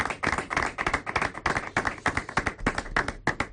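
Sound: stadium crowd applauding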